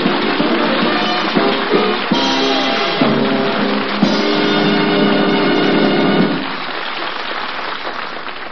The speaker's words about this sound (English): And friends, do you hear what I hear? A lawnmower and Chester A. Riley.